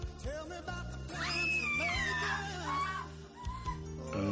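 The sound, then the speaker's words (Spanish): A shrill, high-pitched scream like a little girl's wavers and glides in pitch for a couple of seconds, riding over a steady low droning background, loud. “La verdad no sé, su aspecto no concuerda con sus gritos de pequeña niña.”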